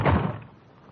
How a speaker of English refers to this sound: The man who slammed the door in my face had the same angry look and the same angry glare of Ben Comiskey.